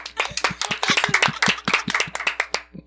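A short burst of lively applause from a small group, with sharp, rapid claps overlapping unevenly for a few seconds and no voices.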